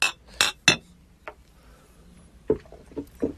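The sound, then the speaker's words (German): Glasses clink together in a toast: a quick burst of bright, ringing taps, a short pause, then another loose cluster of lighter clinks, with no one talking. “Muss man, glaube ich, schon machen. Prost.”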